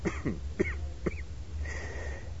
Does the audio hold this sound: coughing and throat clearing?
yes